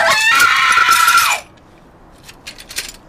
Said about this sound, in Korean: 승택의 자동차에서, 카메라에서, 2014년의 도시에서 희람 씨는 비명을 지르고 있었다. 밤 한 개보다 더 어둡고 아이들의 이별만큼이나 절망적인.